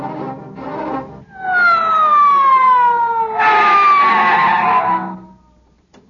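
A loud police squad car siren wails with a long falling tone, preceded by a brief rumble of engine noise, and cuts off abruptly near the end.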